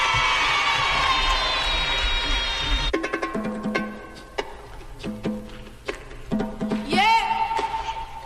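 A loud crowd gives an ovation, cheering, shrieking and applauding in a dense wash of noise for about three seconds as a 12-year-old performer is introduced, then a live band starts playing while the crowd noise fades underneath.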